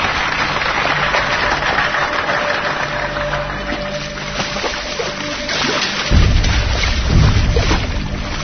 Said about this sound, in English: And we are joined today by members of that diamond industry who wholeheartedly endorse your proposal. I hope you join me in applauding their presence here.